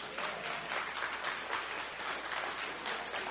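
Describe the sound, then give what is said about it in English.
An audience at a morning church service breaks into sustained applause in answer to being asked whether they have faith that God can do what He says, a dense wash of many hands clapping at steady loudness for several seconds, with no one speaking over it. “Come on, by applause, do you have faith that God can do what He says?”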